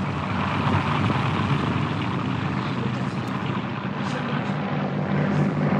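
A small propeller airplane drones loudly as it lifts off, climbs and banks into a turn, its steady engine roar filling the whole stretch with a buzzing low rumble and no pause.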